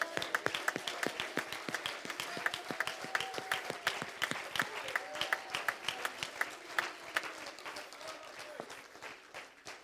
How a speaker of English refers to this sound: One more time, clap your hands to him this morning.